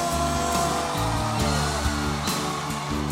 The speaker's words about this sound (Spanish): Y si Jesús está presente en medio nuestro, ¿qué esperamos para darle el aplauso más fuerte de toda la noche? ¡Y un grito de júbilo!